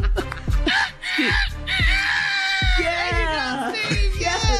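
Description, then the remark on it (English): A person imitates a rooster's crow, a long, strained, wavering cry that rises and falls in pitch over several seconds, with a steady thumping beat underneath. “I'm going to crow like that rooster.”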